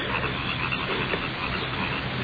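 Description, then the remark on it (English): A dense, steady chorus of crickets chirping fills the whole stretch at an even, fairly loud level, a continuous shimmering night drone with no voices. “Crickets are getting on my nerves.”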